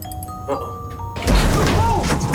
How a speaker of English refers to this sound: The elevator stalls. The doors open, it's stuck below the level of the floor.